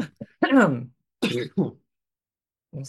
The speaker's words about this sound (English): Yeah, let me get a good cough in.